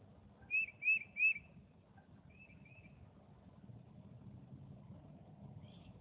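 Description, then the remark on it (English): A little tufted titmouse outdoors in nature gives three clear, whistled chirps in quick succession, then a couple of softer follow-up notes, over a steady low rumble of traffic or an idling engine. “And I see a beautiful little bird in front of me. It's a little titmouse. And he's just chirping away.”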